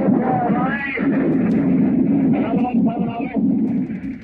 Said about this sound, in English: We are on the beach today, on D-Day. We can see the smoke and results of our own shelling.